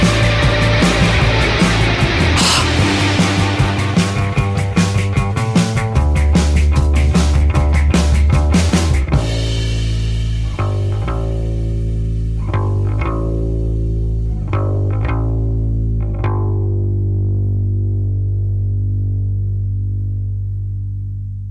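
A loud band recording with dense, effect-laden guitars, bass and drums that drops out abruptly at about nine seconds, leaving sustained bass notes and sharp accented hits that slowly fade away. No one speaks.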